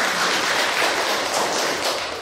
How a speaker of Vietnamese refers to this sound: Đó, cho anh chàng pháo tay về cái trí tuệ đó.